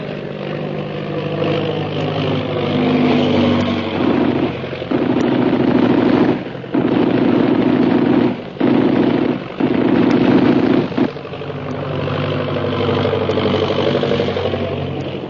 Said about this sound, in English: They were shooting that plane down, the way they tried to send us down.